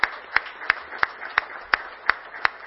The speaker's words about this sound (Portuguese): Fique de pé para uma salva de palmas também.